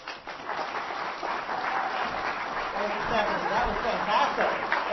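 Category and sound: crowd, audience applause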